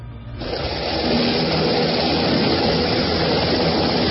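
A police helicopter's rotor and engine, during the operation moving Mancuso to La Picota prison in Bogotá, Colombia, roar up quickly and then hold steady, a loud, dense whirring drone with a low, throbbing undertone and no voices.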